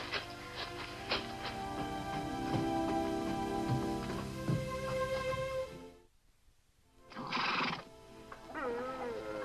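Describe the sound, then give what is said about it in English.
A horse, Domino, which was sick the night before, neighs and whinnies loudly in a long, quavering call, falls silent for a moment, then lets out a few more shorter whinnies and snorts. “Boy, looking at you now, nobody would ever be able to tell you were a pretty sick horse last night.”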